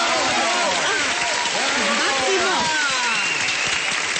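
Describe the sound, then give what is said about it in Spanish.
A crowd applauds loudly and steadily for a few seconds, with cheering and shouting voices mixed into the dense clapping throughout. “¡Fuerte el aplauso!”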